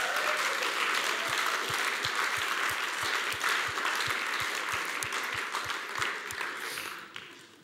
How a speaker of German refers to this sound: Der einmalige Moment geht zu Ende. Applaus für unser Sonnensystem.